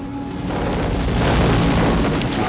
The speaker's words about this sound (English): A truly massive explosion. Everybody was a little bit white-faced afterwards. Bits of debris were flying around. We were all kind of happy when it was over.